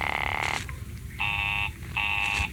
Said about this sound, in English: Oh, it's busy again. Operator, the line is busy.